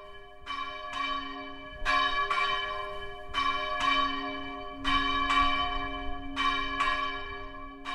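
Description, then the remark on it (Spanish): Several church bells peal on a Sunday for Mass in an overlapping, irregular rhythm, each strike ringing with a long, bright resonance and steady hum beneath, loud with no voices. “Pero es domingo, suenan las campanas y alguien tiene que dar la misa.”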